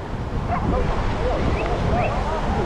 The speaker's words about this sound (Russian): Который мелкий? Который лает на всех.